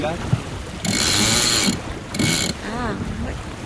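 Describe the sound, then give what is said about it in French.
A winch on a small sailboat ratchets rapidly as the genoa is trimmed, a long run of dense clicking followed by a shorter burst, with wind noise and a faint voice afterward. “De gonfler un peu le génois pour appuyer un peu ce bateau.”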